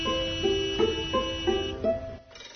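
A school bell rings as a short electronic chime, a run of about six steady, evenly paced pitched notes stepping up and down in a simple melody, moderately loud with no talking.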